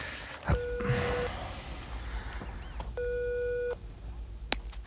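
A mobile phone ringing tone heard over speakerphone after a number is dialled: two long, steady electronic tones with a pause between them, tinny, amid faint background noise and a couple of small clicks.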